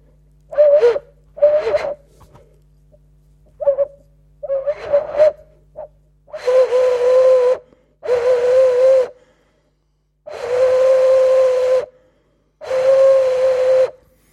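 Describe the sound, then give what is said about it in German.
Breathy tones from a small resonator about the size of a hen's egg, blown with the mouth: several short, airy hoots with a steady low pitch, then four longer sustained whistling blasts, each a clear single note wrapped in breath noise, with gaps between. “Also der ist, also mit Mund anblasen ist nicht so gut, wie wenn man es akustisch anders anregt.”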